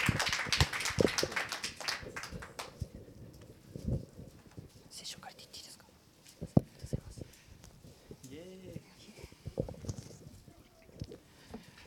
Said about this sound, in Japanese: ハレルヤ、拍手で迎えてください。 Let's receive him with claps.